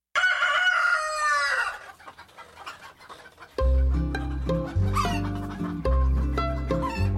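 A rooster crows once, loud, its strained call trailing off; after a short lull, bright instrumental music with a steady bass line starts up.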